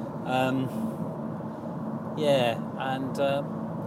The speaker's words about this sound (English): I'm driving home in the car. As you can hear, I'm driving along. The auxiliary audio in my car stereo is creating a nice hiss into my stereo system.